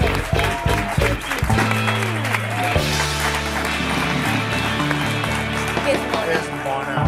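An audience breaks into loud, sustained applause for a guest who raps trap in Catalan, a dense crackle of many hands clapping steadily throughout, with a low, droning musical bass running underneath.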